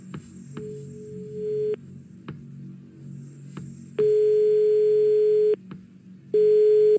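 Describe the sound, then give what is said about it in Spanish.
A telephone ringback tone of an outgoing call placed live on the Spanish radio show Anda Ya of Los 40 purrs over a phone line, three steady single-pitch tones of roughly a second each separated by long pauses, over a faint background hum with no one speaking. “Toma el teléfono, marca.”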